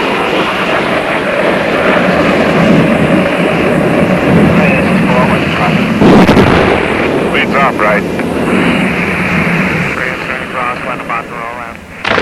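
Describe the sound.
Heavy gunfire from a green-blue helicopter making a strike on the enemy in the Vietnam War, with rumbling rotor and engine noise and a loud burst around the middle, while a man briefly calls out over the din.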